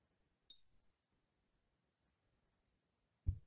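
A single bright glass clink rings out briefly as a toast, followed by near-silence with faint handling noise as someone drinks, then a soft low thud as a glass is set down. No one speaks.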